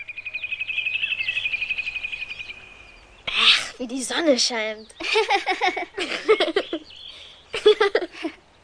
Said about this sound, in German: Wie die Vögel zwitschern.